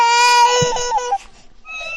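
A baby cries loudly and close by, a sustained high wail that breaks off, then resumes after a short gap with another rising cry.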